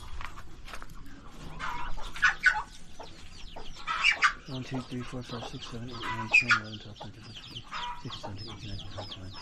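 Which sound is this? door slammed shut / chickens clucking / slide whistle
chickens clucking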